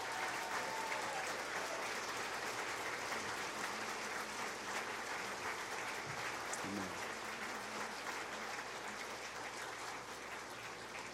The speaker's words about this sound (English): God bless you, and we told you want you to hold your applause, but if you'd like to tell these folks how much you appreciate what they did, and the Lord, how much you appreciated him, just give them a hand.